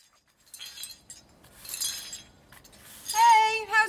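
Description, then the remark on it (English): Old glassware shatters in a few bright, crashing bursts with scattered clinks of falling pieces, then a louder ringing, tonal sound at the end. “Oh, what have you broken? Old glassware, that's all. Breaks too easily.”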